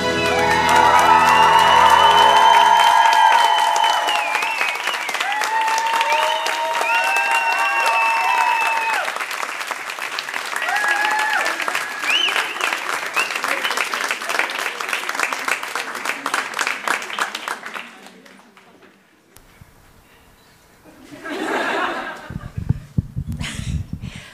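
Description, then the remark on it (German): An audience at a stage show in Berlin bursts into loud, sustained applause mixed with high whoops and cheering for the two hosts, which keeps up steadily for several seconds, then dies away before a voice begins to speak. “Und nun bitte Jubel und Getose für eure Hoheiten,”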